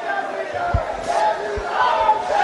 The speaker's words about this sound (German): Sie singen und sie jubeln dem Premierminister zu.